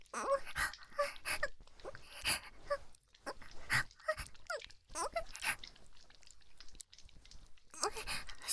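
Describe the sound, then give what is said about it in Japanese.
Wet, slobbery licking sounds repeat in an irregular rhythm, with smacking and slurping textures and occasional soft breathy noises between strokes. “そんな犬みたいにベロベロ舐めてプライドってものがないのか知らん。”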